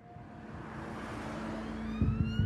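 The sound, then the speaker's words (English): A police car races past with its siren rising in pitch, the engine and road noise swelling louder as it approaches. The wail builds toward the end. “More footage shows a police car speeding past.”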